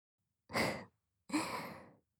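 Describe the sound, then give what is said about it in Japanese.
Two soft, breathy exhales blown close to the ear, each a gentle airy whoosh lasting under a second, separated by a brief pause, with no talking. “本当に吐息が好きなんですね。”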